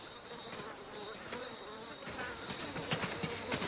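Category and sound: insect, flies buzzing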